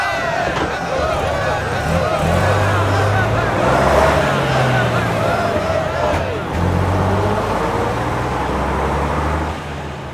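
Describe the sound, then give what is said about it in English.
A large bus engine rumbles and revs up as it pulls away from a stop, its deep drone climbing in pitch, with indistinct voices in the background. “Come on, you lot. This is our stop. I'm glad to be off that bus”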